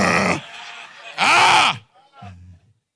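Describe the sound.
A voice imitates snoring: a breathy rasp, then a louder, drawn-out rattling snore, and finally a short, low grunting snort before silence.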